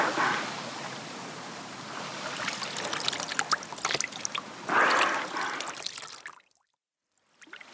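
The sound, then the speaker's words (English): Water splashes and pours steadily for about six seconds onto a dolphin stranded on a beach, a sloshing wash with brief surges, then cuts off into silence. “Tom, you must pour water on the dolphin.”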